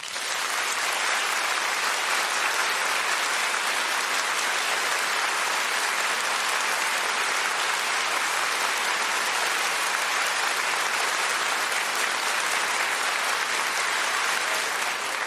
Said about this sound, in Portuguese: Mas eu queria marcar aqui 15 segundos e nós vamos bater palmas, que vai ser uma expressão nossa para dizer a Jesus: Jesus, eu te amo. Pode ser? Então eu vou esperar ficar redondo aqui, aí eu aviso e você começa a bater palmas se você ama Jesus. Vai!